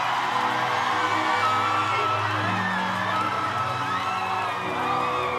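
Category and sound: crowd, crowd cheering and whooping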